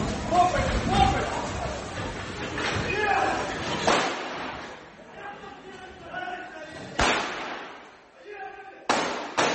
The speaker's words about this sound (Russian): Тот в сопровождении нескольких десятков людей 18 сентября пытался штурмовать офис компании в Романовом дворе в Москве. Толпа подходит к офисному зданию, ситуация резко накаляется. Еще через пару мгновений раздаются первые выстрелы.